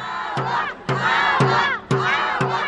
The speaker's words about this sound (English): Those protesters on the steps of Fresno City Hall shouting agua, agua, agua underscored the issue being made by Republican members of the House Natural Resources Committee who arranged that meeting.